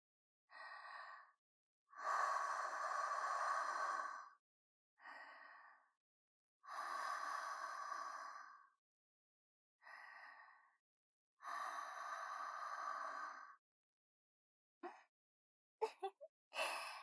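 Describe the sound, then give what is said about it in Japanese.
Warm, sticky, breathy exhales blown right up against the microphone, three long airy breaths, each after a short intake, in a slow steady rhythm, followed by a few faint mouth clicks. “このねっとりした生あったかい吐息、もっと浴びせてあげます。”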